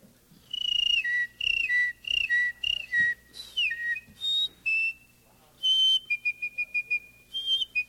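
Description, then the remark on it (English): A person whistles a lively birdsong imitation: sweeping, warbling phrases followed by a quick burst of rapid repeated chirps, clear, with no talking. “I'd like to do just a few of them for you, things that you'll readily recognize. Start out with some birds.”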